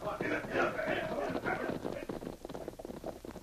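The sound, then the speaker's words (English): Horses' hooves clatter in a quick, irregular rhythm as a group of men ride away from a cabin, gradually growing fainter, with some murky tonal sounds mixed in at the start. “He could hear Jake and his men saddling their horses outside. Finally, they rode away.”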